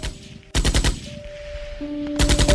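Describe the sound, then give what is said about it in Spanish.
Two loud bursts of rapid machine gun fire from tanks firing on demonstrators, each a quick string of sharp cracks, separated by a pause filled with a low steady droning hum. “Supongo que intentará persuadir a los manifestantes y lograr que se retiren pacíficamente, y asimismo evitar el uso de las ametralladoras, pero tres tiros le quitan la vida. Y entonces los tanques disparan contra todos.”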